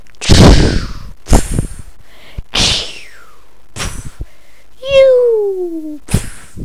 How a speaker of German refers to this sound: Hinterher feuern sie noch ein paar Raketen ab.